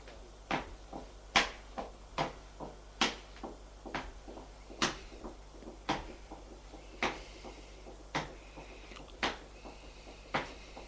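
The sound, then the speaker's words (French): Steady footsteps walking at an even pace in a hospital, about a dozen sharp, clear steps on a hard floor, fairly loud, with no voices. “Il entend des pas.”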